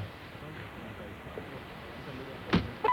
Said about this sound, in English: By the way, I hit something there. Right, you hit the top of the little table there. I just kind of slapped it. So let's hear him hit it again.